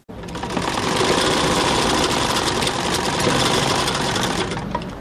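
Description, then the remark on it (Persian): A sewing machine runs steadily for about five seconds in a small tailor's shop where men's clothes are sewn, a fast, even mechanical rattle with a low motor hum, continuous and fairly loud with no voices. “در یک دکان کوچک خیاطی همراه با 5 تن شاگردش سرگرم کار است و لباس های مردانه می دوزد.”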